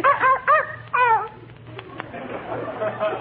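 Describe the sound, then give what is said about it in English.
A small dog gives three or four quick, high-pitched yappy barks in a busy post office at Christmas time, then quiets as soft, indistinct talking carries on in the background. “Fifi is a very intelligent dog and very valuable, too.”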